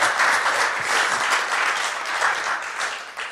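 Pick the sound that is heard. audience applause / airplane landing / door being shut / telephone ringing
audience applause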